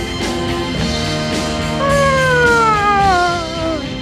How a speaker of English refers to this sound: Hey, ask him if that's his siren or did he have to... That's your siren or did you have to...